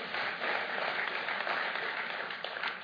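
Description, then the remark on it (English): A crowd applauds steadily, many hands clapping at once in a dense, even wash of sound that holds a fairly constant level for the whole few seconds, with no voices standing out. “What are you guys clapping for?”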